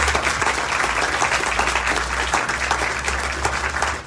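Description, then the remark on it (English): A large audience applauds steadily for community collaborators at an event, a dense wash of many hands clapping at once, sustained and fairly loud for several seconds with a low hum underneath. “So let's give a big round of applause for all of the community collaborators.”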